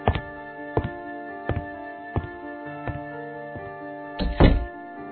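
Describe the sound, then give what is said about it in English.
A door closes with a heavy thud near the end, preceded by a steady series of softer, evenly spaced thumps, all over a sustained tonal background. “And please close the door on your way out.”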